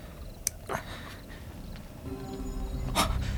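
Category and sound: animal, dog panting and snorting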